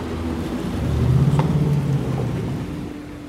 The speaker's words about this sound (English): And we're in a line of cars as far as the eye can see on the highway going west toward Lvov from Vinnytsia. Everybody has cars packed with kids, animals, suitcases.